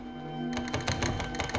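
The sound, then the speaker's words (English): A closed bedroom door rattles in quick, irregular clattering bursts that begin after half a second of low steady hum and continue to the end, moderately loud, with no voices. “The door rattles and she opens her eyes wide.”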